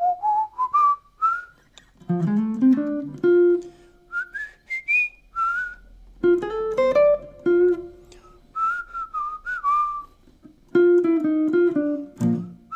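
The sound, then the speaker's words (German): A clear whistled melody plays in short phrases, each lick then replayed on a plucked instrument as ear-training practice, moderately loud with no talking. “Dabei kann man sehr gut die Verbindung zwischen Gehör und Instrument stärken, indem man vorher übt, die Licks zu singen oder zu pfeifen, um sie dann auf dem Instrument nachzuspielen.”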